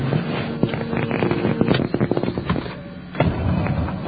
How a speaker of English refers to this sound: This thing starts up just like a car, huh? Yeah. Key and ignition and everything. Wants to start. Sounds like my car, too.